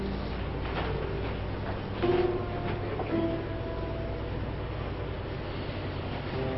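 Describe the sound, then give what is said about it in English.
A train rolls along railroad tracks with a steady, heavy rumble, and two brief tonal squeals rise out of the noise near the start. No one speaks. “Along came a train.”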